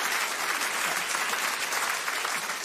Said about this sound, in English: You keep doing your good work, and well done, dear. Well done. Round of applause.